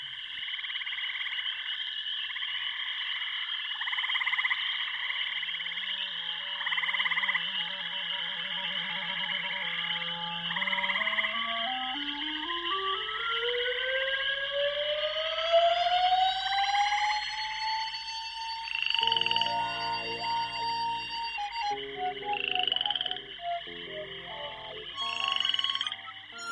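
The station jingle of Radio Grenouille, a Marseille radio station: a synthesized electronic jingle mixing rhythmic croaking frog-like sounds with a long rising, siren-like sweep, then a burst of pulsing tones and effects; no voices.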